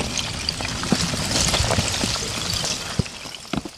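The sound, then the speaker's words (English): Chunks of ice clink and knock together as a river flows for the first time all year, carrying the ice over a steady rush of water, with scattered sharp, bright taps and a few louder clinks near the end. “For the first time all year, the river is flowing, carrying chunks of ice.”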